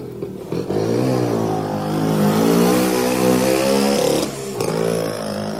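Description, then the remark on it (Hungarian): A motorcycle engine, ridden by the rabbit Nyuszika in a story, revs loudly, its droning pitch climbing and wavering for several seconds, dipping briefly, then surging again as it drives off. “A Nyuszika motoron folytatta útját.”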